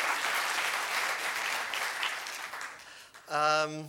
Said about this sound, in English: Yes, please, applause for the library. Thank you.